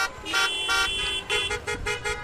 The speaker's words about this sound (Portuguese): Buzininha bonita essa. Essa é buzina. Bibi, né? Essa é buzina de daquele Fusca antigo? É de um Lamborghini.